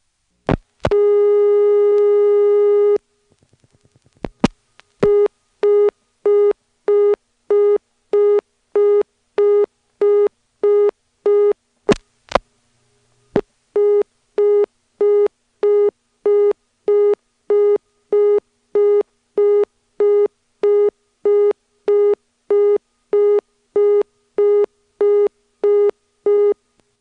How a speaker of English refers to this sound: When the outgoing lines are busy and you dial 9, you get a busy signal, which times out to another busy signal. Now it's really starting to sound like North Electric.